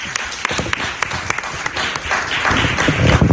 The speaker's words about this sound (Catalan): Doncs un aplaudiment molt fort, que ens ho farà.